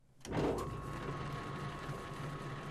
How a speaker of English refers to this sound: the sound that would remind me of my father would be to hear his old Atlas lathe with its gear train